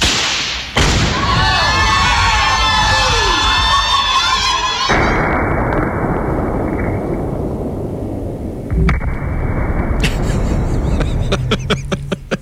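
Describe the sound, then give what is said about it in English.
A sudden, loud explosion of a wedding dress rigged with 20 pounds of explosives at a farm party bursts in after a brief quiet, followed by whistling debris-like tones and a long, heavy roaring rumble heard 15 miles away, with crowd cheering mixed in near the end. “That's her wedding dress. People heard that explosion from 15 miles away.”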